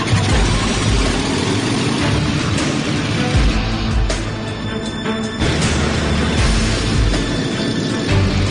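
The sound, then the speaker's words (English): The engine of a Canadian water bomber aircraft, used for Turkish trainees' first flying lesson, turns over and runs as a loud, continuous, throbbing drone with a rough mechanical rumble, easing slightly midway before surging back. No voices. “With his flying permit approved, Arnie can now give his Turkish trainees their first lesson in a Canadian water bomber.”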